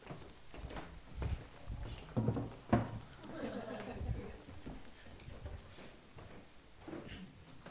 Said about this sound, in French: Je vais remettre la chaise un peu plus loin.